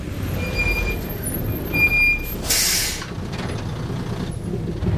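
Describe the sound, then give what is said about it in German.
A large tour bus arrives at a concert hall and rumbles to a halt, its engine droning low before a loud, hissing burst of air brakes releases, then the idling continues. “Der Tourbus ist an der Konzerthalle angekommen.”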